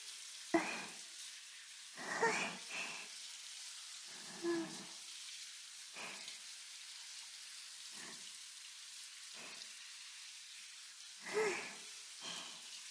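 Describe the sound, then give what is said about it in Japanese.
A steady hiss of running water pours on without a break, broken by about ten brief, louder splashing bursts as hands rub and rinse soap foam off under the stream, including between the fingers. No one speaks. “はい、次は手の泡を流しますよ。指の間も泡が残らないように。”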